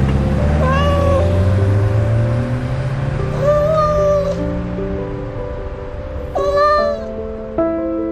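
A cat meows plaintively four times, drawn-out, wavering cries spaced a few seconds apart, clear over a low, steady droning hum with no one speaking.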